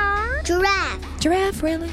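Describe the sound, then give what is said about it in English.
A young child's voice imitates a cat, giving several short, high-pitched meows in quick succession, fairly loud, with wavering, sliding pitch. “Dog. Cat.”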